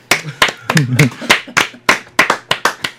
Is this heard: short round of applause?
yes